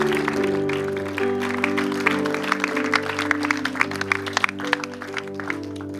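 An audience applauds with steady, dense clapping that carries on for several seconds over sustained, warm keyboard chords, with a few sharper claps standing out toward the end.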